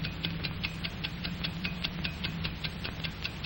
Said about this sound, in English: What controls the ticking of a watch? Inside, we find a beautifully poised and balanced mechanism of springs and gears, pinions and bearings. And this entire mechanism must be confined to a very small space. Still, it must run at a constant speed.